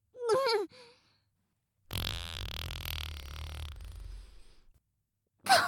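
A long, loud, rumbling fart, let out onto someone after eating sweet potatoes, lasts nearly three seconds, sputtering and fading out at the end. A short voiced sound comes before it and a brief vocal burst follows.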